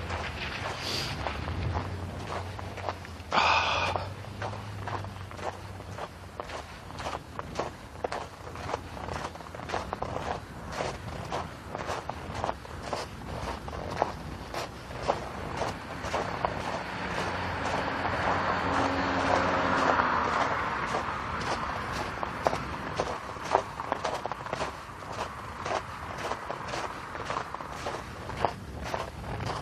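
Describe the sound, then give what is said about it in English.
Steady footsteps crunch on ice at an even walking pace as a person crosses a street. Traffic rumbles in the background and swells briefly as a car passes. “But being in the day, dealing with what I can deal with today right now, which is trying to get across the street without either falling on the ice or getting hit by a car.”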